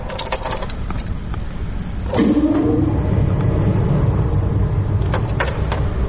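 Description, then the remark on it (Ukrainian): A few clicks and rattles as a key is turned, then the blower motor of a Czechoslovak Rieger-Kloss pipe organ in Kharkiv starts with a rising whine about two seconds in and settles into a steady, low rumbling hum that continues to the end. “Вот сейчас заработал орган. Сейчас включился мотор. Сейчас воздух подается в его легкие.”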